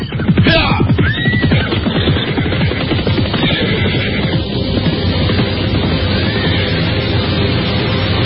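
A horse whinnies loudly near the start over a dense, continuous clatter of hooves and movement as several riding horses travel together carrying riders, escorted by soldiers on the way to Majapahit, with no talking.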